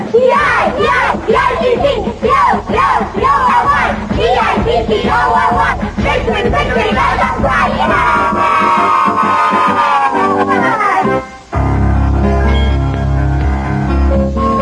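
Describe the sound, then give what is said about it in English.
A baseball team shouts a rowdy victory cheer together, loud, with whoops and yells in rhythmic bursts before a brief pause and music-like tones take over. “Let's do the victory cheer, huh?”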